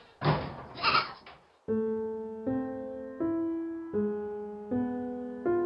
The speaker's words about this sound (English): It was extra noisy in the tiny one-room house. What with the goats bleating and jumping on the furniture, no one could get a wink of sleep.